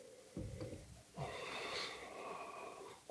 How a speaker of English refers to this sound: Please listen to us smelling our beers. It's the favorite time of the episode.